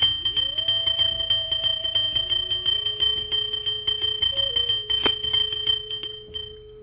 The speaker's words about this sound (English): You're going to start going counterclockwise around the room, and you're going to be ringing the bell.